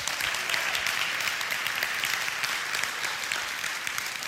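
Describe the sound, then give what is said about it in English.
A large church audience claps steadily and enthusiastically in praise of the Lord, a dense wash of many hands applauding at once without pause, with no voices standing out. “If you believe it, give the Lord a hand clap of praise with him.”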